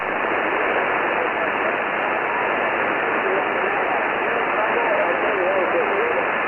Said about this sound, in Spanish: Vamos a escuchar íntegramente esos audios con la respuesta a ese tan buscado indicativo a través del QRM.